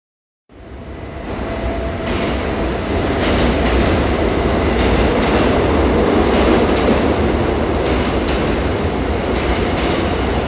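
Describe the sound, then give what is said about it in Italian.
A train pulls away from a station, its loud, steady rumble filling the scene with faint rhythmic clatter and a thin high whine above. No voices are heard. “Accidenti, l'ho perso. E adesso che faccio?”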